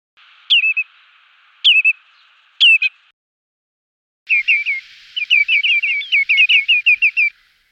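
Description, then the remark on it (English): A redshank's alarm call: three sharp, high, downward-slurred piping notes about a second apart, then a rapid, insistent run of shrill yelping notes lasting a few seconds. No voices are heard. “Redshanks make their three-note alarm call at the least provocation.”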